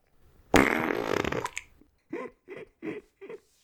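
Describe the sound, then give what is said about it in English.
A loud, blustery fart noise made with the mouth lasts about a second, followed by four short, evenly spaced sputtering bursts, with no talking. “I was wondering if we were going to get through the entire episode without doing a fart noise.”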